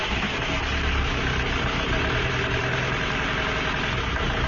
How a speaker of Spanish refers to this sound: Oye, no es por nada, pero tu coche hace un ruido raro, raro. Uf, ya lo sé. Lleva así unos días. Yo creo que no lleva el aceite que toca